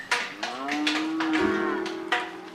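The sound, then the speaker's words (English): A cow lets out one long, drawn-out moo, loud, with a low, steady, droning pitch that swells and then fades. No one speaks over it. “Who knew cows like to be in control?”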